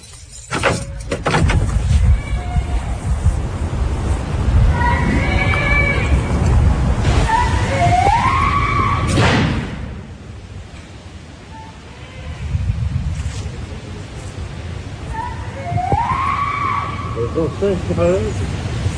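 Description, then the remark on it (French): Several shrill, wavering screams from a person rise and fall in pitch, breaking out in short bursts over a steady, rumbling background noise. “Quand ils entendent crier, comme ça, c'est horrible. Qui est-ce qui crie?”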